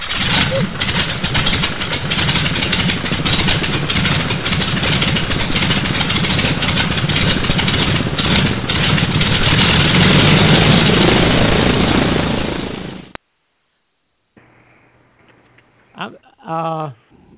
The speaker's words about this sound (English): that was the thrill of starting those engines. So here we go. Let's crank up our engine.